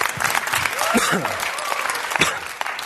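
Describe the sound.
An audience breaks into steady, dense applause given to God, many hands clapping together in a broad continuous wash, with a few voices calling out briefly underneath.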